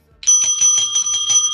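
A bell rings in a rapid, trilling burst, struck about six or seven times in quick succession. It is loud, with a steady metallic ring and no voices.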